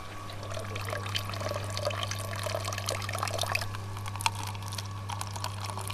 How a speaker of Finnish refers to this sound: Näin. Sieltä sitä lorisee pahvimukin pohjalle nyt sitten puhdasta juomakelpoista vettä.